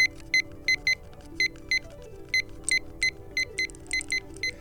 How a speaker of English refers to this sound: It's my little kitchen timer. It's ticking away.